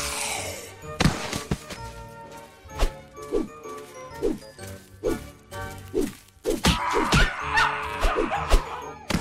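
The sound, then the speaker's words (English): A dog barks and yips repeatedly in quick, uneven bursts, fairly loud, with steady music playing underneath. “The dog.”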